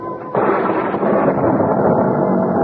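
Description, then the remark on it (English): A sudden, enormous crack of thunder bursts in after a brief lull, then rolls on as a loud, sustained rumble that fills the whole clip without fading. “I was startled by an enormous thunderclap, followed by the wrenching split of wood.”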